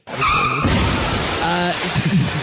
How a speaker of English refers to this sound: Do I have the fucking car crash?